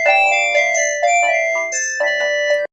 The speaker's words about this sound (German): Telefon!